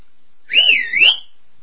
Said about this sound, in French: De toute manière, vous savez, j'ai un siffle ultra puissant.